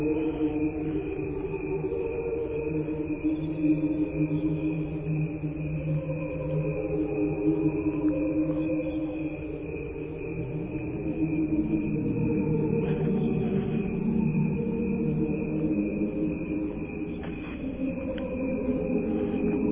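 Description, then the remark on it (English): A steady, continuous chorus of crickets chirping at a moderate level, layered over a low, soft ambient hum, with no voices present, then faded out. “Okay, we can go ahead and fade out the crickets there.”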